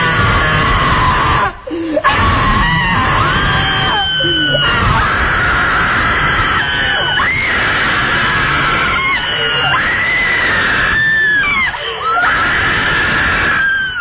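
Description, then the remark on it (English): Several people scream loudly and continuously, their shrill, overlapping voices rising and falling for about fourteen seconds with only brief dips, like a crowd shrieking together. “be embarrassed about opening your mouth and letting rip with all you've got, because the person in the seat right next to you will probably be screaming too.”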